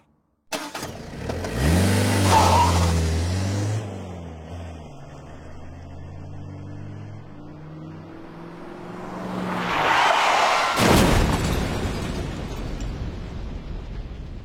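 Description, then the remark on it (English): A car engine revs and roars as it accelerates closer, the pitch shifting, then a loud, violent crash as it drives into a car parked on the road with two people inside, with crunching metal and scattering debris, prominent, with no voices. “Birdie and Nicola were sitting in the car, parked on the road, waiting for Charles. He drove smack into them.”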